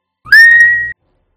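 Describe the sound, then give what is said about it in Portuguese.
A single sustained, shrill whistle blast from a street watchman's whistle, steady in pitch for about half a second, loud, with no talking around it. “Se cara, as pessoas ao longe não vocês vieram, escutam não aquele apito de vigia da rua.”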